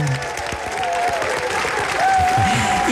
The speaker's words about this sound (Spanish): ¡Un aplauso!